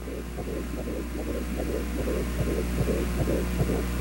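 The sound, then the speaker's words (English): A fetal heartbeat recorded from an ultrasound monitor over 22 years ago, while the baby girl was still inside her mother: fast, steady whooshing pulses repeating over a low electrical hum, fairly loud, with no talking. “That was her little heartbeat.”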